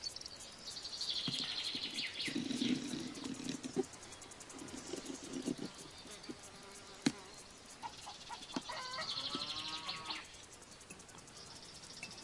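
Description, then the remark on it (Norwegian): Chickens cluck and murmur amid a busy farmyard, with a steady buzz of flies or insects and occasional sharp knocks in the background. Nobody speaks. “You have to go to a farmyard and get yourself some fertilized chicken eggs.”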